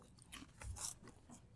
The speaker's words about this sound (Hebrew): מקווה שלא יגידו שזה לא מנומס לאכול באמצע שיעור, אבל אין מה.